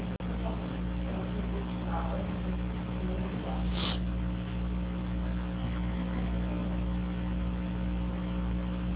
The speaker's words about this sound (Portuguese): baixa aqui esse ventilador, por favor, porque senão vai ficar saindo aqui. Baixa esse ventilador aí, por favor.